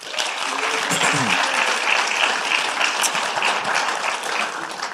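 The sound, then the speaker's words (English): Steady, loud audience applause for two people fills the whole stretch, a dense wash of many hands clapping at once, with a few faint voices murmuring underneath. “So would you give a round of applause for these two?”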